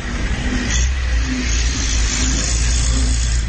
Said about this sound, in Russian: вот мы на заправке. Ну, машин хватает, едут. В принципе, тут все видно.